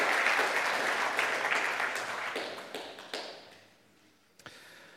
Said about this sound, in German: Und ich denke, auch wenn sie nicht da sind, das ist ein kleiner Applaus wert.